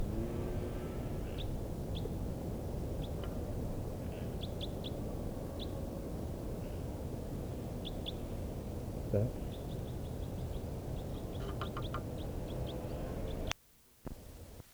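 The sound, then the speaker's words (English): Type 4 bird flight calls from two or more unseen birds flying over the dunes at Honeyman: short, high chip notes repeated in scattered pairs and small bursts over a steady, loud low rumble, ending with a sudden noisy jolt. “I'm in the dunes now, and I'm hearing calls of type 4 birds.”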